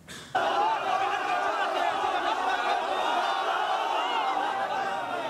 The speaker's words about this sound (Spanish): Ahí tienen este momento tan especial. Ahí con emotivos gritos y aplausos están celebrando rescate de dos pequeños niños y su padre. Estuvieron atrapados durante dos días entre los escombros de un edificio en la localidad de Siria de Vicina.